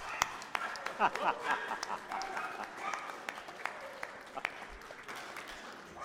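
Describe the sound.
A round of applause from many hands, a dense, steady patter of claps sustained for about six seconds at moderate loudness, with a few voices mixed in near the start.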